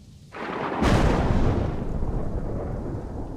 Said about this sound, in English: Jiminy, ain't that storm a-bustin' through?